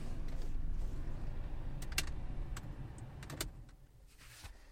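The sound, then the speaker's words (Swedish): A car's engine and fan rumble steadily, then several sharp mechanical clicks come as the car and its fan are switched off at the end of a drive, and the hum fades noticeably quieter toward the end. No one speaks. “Det blir ju påfallande tyst när man stänger av en bil så här. Man har fläkt på och så där.”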